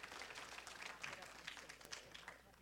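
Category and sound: crowd, audience clapping hands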